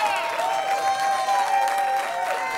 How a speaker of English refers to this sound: As he and trustees returned to the open session, at least 100 patient Dansby supporters burst into applause.